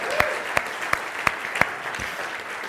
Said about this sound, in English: yeah, just quick stand up so we can just applaud